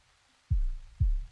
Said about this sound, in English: And your heartbeat becomes my heartbeat.